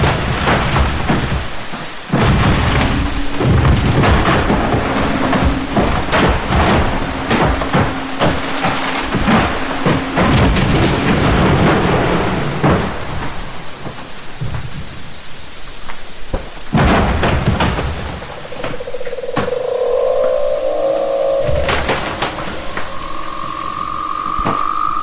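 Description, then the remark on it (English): Underwater ice booming, thudding and cracking as it refreezes, in a dense percussive chorus of sharp cracks and deep booms, with a few brief tonal creaks and groans rising near the end. “So that this wonderful percussive chorus of booms and thuds and cracking as this was happening around me in the sort of sea of sound, when everything else was silent.”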